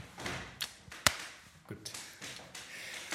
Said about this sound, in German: Boah, selbst die Stühle, hörst du die Stühle? Selbst die letzte Woche haben wir noch Stühle, die nicht geknarzt haben. Es wird immer lauter, immer mehr Störgeräusche.